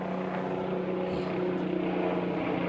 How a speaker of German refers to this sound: Na, aufgefallen ist die ganze Geschichte nur, weil ein extrem lauter Helikopter hier rumschwirrt.